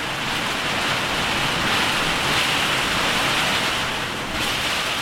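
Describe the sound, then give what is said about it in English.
Heavy storm rain pours down on a boat shed in a steady, dense, loud roar, drumming continuously with no pauses or other sounds. “This storm shower alone must be a good 20 minutes.”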